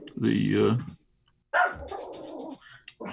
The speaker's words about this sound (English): Is that how they responded, by barking? One way.